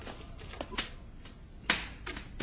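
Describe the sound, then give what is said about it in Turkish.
A door being opened: a series of sharp mechanical clicks and clunks, like a latch or lock being worked, spaced irregularly over a low background hiss, with no voices. “Açın kapıyı.”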